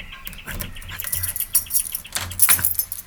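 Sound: keys jangling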